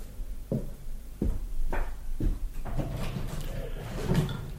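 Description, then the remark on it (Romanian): A window is opened: a few sharp wooden knocks and latch clicks in quick succession, then a rough scraping slide as the frame swings open, with no voices. “Dă drumul la fereastră.”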